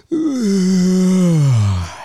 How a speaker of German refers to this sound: Habe ich gegähnt oder wie? Ja, hast du.